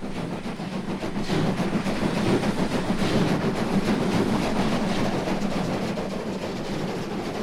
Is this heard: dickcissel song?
no